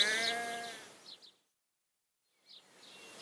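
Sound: sheep bleating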